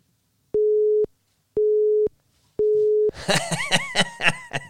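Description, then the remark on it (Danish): Three steady telephone line beeps during a call, each about half a second with even pauses between, loud and clear, then laughter and chatter from voices take over. “Hold op, der er altså hul igennem på den nye der, hva?”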